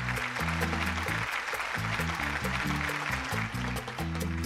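A dense, steady round of clapping, like a crowd applauding, runs for several seconds over a bouncy low melodic tune, staying fairly loud throughout.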